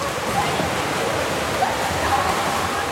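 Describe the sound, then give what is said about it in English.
A busy indoor swimming pool: a steady, echoing wash of splashing water, with children's laughter, voices and faint shrieks blurred together in the reverberation. “But inside, it's a palace of light, with the sound of children's laughter, screeches, and splashes reflecting and refracting off of the water.”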